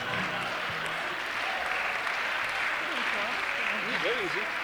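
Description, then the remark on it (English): Steady audience applause fills the whole stretch, a dense even patter of clapping at constant loudness, with a few faint voices calling out beneath it toward the end. “You really don't thank need you. To applaud at all.”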